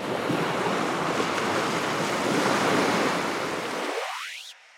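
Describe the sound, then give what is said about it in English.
Heavy surf crashes steadily against a shore, a dense, roaring wash of water with wind noise mixed in, loud, swelling slightly before fading out at the end. “We hear fragments of this early Earth today in the spasms of earthquakes and the sounds of wave-pummeled seashores, windy mountaintops, rainfall, and lively rivers.”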